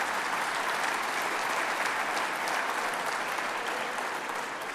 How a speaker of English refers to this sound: So please, a big round of applause.